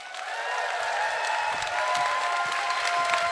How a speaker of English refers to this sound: Clap your hands for them.